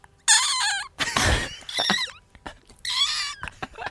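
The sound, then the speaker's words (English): A man imitates a seagull with two nasal, wavering squawks, separated by a harsh breathy rasp and some clicks, loud with no talking. “my favorite one out of all of the impressions that he's so good at, I think my favorite is when he does a seagull.”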